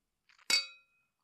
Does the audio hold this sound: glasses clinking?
yes